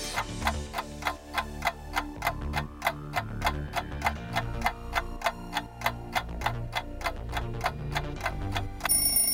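countdown timer ticking

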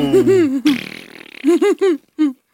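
fart

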